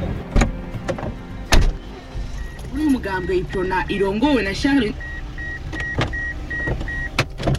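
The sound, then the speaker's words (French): A Mercedes car's power window whirs for a couple of seconds, followed by a steady series of soft electronic beeps, with a few sharp knocks and thumps. “C'est ma bagnole? C'est celle-ci? D'accord. Très très belle Mercedes.”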